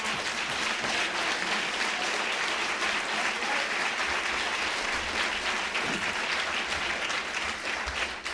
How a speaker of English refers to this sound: As the vice president told you, that applause comes from not the working press.